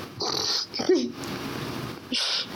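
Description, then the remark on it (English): A cat named Stanford gives one short, rising-falling meow, set between soft breathy hissing noises, with no one talking. “Sorry, I'm distracted because one of our cats, Stanford, is...”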